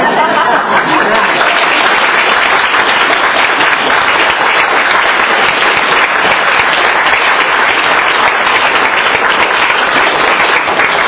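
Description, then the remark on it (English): Steady, loud applause from an audience, a dense wash of many hands clapping continuously for about eleven seconds with no break and no voices standing out. “So I want to thank you, and I want you to know that when the house gives me the great applause I deserve, I'm sharing it with you.”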